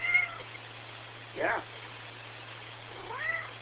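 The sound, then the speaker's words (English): A cat meows a few times: a short call at the start, a brief mid-clip sound, and a rising, drawn-out meow near the end, fairly quiet over a steady low hum. “We have some wise words from Professor Meowingtons himself.”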